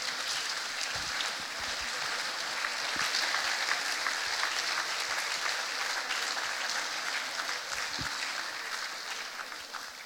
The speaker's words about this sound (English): So without further ado, if you guys would come on up like a cattle herd, let's do it. Come on up and let's clap them up as they come.